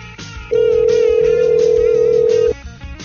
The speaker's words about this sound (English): I know you're listening right now. Answer the fucking phone.